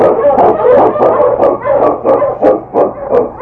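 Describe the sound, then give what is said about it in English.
A team of Yukon sled huskies, led by the Eskimo lead dog King, barks and howls together in a loud chorus, with rapid overlapping yaps and bays repeating every fraction of a second and no talking. “On, King! On, your Huskies!”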